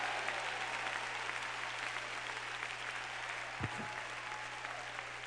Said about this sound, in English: Clap your hands and shout, I'm expecting something. I'm expecting something from God tonight.